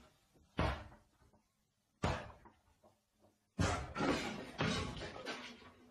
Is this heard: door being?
yes